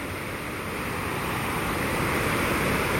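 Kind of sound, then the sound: nature, flowing water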